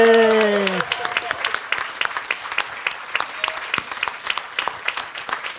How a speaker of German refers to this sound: Einmal Applaus.